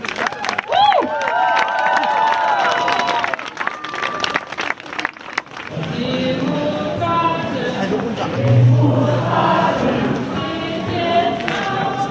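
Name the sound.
crowd applauding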